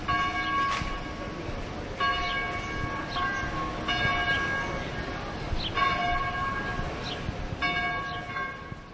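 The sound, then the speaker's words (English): Church bells ring on Masaryk Square in Uherské Hradiště, a town in southeast Moravia, pealing in a steady, overlapping cycle of strikes, their ringing tones layered and sustained over a dense outdoor background, loud and continuous throughout with no voices. “Church bells ring on Masaryk Square in Uherské Hradiště, a charming, picturesque town in southeast Moravia.”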